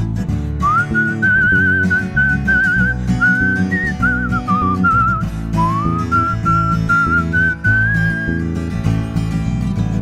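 A person whistles a wavering, melodic tune in clear sustained phrases, prominent over a full instrumental music backing, continuing throughout with short breaths between lines.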